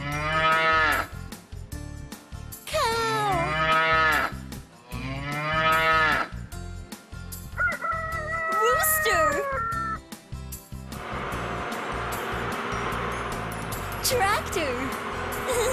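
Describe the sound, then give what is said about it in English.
A sequence of farm sounds: loud, drawn-out cattle moos, a cat's wavering meows, then a steady rumble of tractor engine noise, with sweeping harmonic cries rising and falling throughout. “Those are sounds from a farm.”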